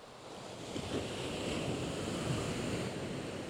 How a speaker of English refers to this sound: Yeah. The ocean, man. The ocean. Getting sprayed with ocean spray now.